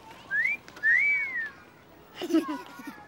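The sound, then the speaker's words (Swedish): A person imitates a two-note wolf whistle, as whistled when two girls walk past: a short rising tone then a longer rise-and-fall, clear, followed by a brief burst of talking. “Där två tjejer går förbi, de visslar och bara...”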